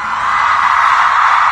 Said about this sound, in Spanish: Siempre se pide un minuto de silencio. Y yo hoy quiero pedir no un minuto. El tiempo que queramos para no estar en silencio. Vamos a gritar porque ya hemos estado mucho tiempo en silencio.